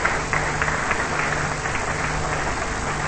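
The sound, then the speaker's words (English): A crowd claps steadily for Jesus at a preacher's call, a dense wash of many hands applauding at an even, fairly loud level for a few seconds with no clear pauses. “Somebody clap for Jesus, no. Clap for Jesus, no.”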